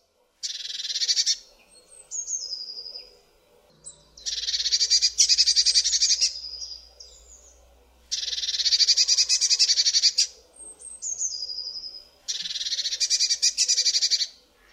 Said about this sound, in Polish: W podobny sposób zbudowany jest u tego gatunku głos wyrażający zaniepokojenie.